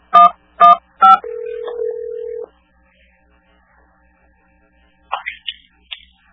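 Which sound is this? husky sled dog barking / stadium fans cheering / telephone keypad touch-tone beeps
telephone keypad touch-tone beeps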